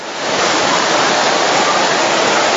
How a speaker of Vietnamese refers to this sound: Lê vào lẹ lên, mưa ướt hết bây giờ.